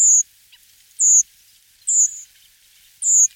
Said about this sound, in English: Redwings announce themselves in flight with a simple sweet call.